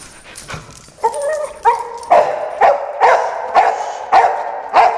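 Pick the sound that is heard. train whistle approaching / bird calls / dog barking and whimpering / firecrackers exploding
dog barking and whimpering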